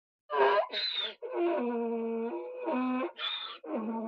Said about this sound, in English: What's that noise? It's a donkey.